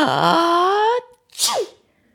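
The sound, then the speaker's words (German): A voice imitates a dragon's sneeze, caused by dandelion seeds tickling its nose: a long rising, strained wind-up of about a second, a brief pause, then a sharp, explosive, loud burst with a breathy, falling tail. “Der Drachen muss niesen.”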